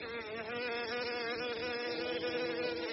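Bees buzz steadily and loudly throughout, a dense, wavering drone of several insects flying around looking for food, with no speech or other sounds.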